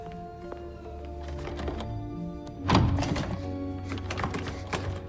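Alice tries the handle of one of many locked doors in a dim rotunda with a black and white checkered floor: a single heavy thunk as it catches, followed by a few faint clicks and rattles, all over a steady low hum with no voices.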